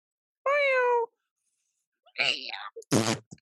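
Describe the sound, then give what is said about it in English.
A person imitates a cat getting run over: first a sustained, falling meow-like wail, then after a pause a couple of strangled, screechy yowls. The voice is loud. “So what is the noise of a cat in Doha with a flamethrower getting run over?”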